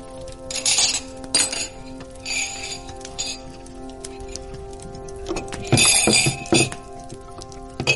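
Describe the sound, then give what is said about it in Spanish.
Porcelain cups and spoons clink and clatter in irregular bursts while black tea with milk is prepared, bright ringing chinks over a steady low hum, with a louder cluster of clinks near the end. “Voy a preparártelo y empezamos de inmediato.”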